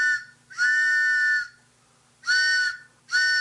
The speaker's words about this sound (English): Oh, it sounds like there's a train coming. What kind of a train is it? Is it a freight train? Is it a commuter train? Oh, no. Why, it's the WBAI pitching train.